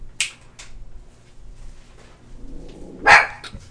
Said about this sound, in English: Where is she barking?